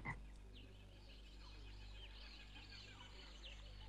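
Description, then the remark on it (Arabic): Poison dart frogs, each only about the size of a thumb, call continuously in a dense Amazon rainforest chorus, steady chirps and trills layered over a low, constant background hum, with no one speaking. “ضفدع النبلة السام هو فقط بحجم إبهامك، لكن ضفدع وحيد له سم كاف في جلده لقتل أكثر من 50 شخصا.”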